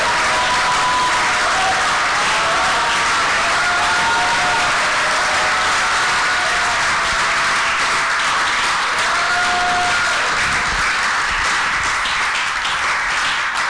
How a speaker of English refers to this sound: If today you are also saying you'll be preoccupied with the Father's business, show it with a clap and a very good shout to God.